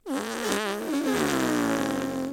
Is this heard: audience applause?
no